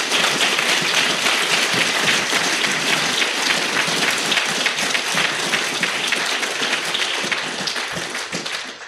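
A crowd at a meeting applauds in a steady, dense wash of clapping that holds for several seconds, then eases slightly toward the end, with no voices over it.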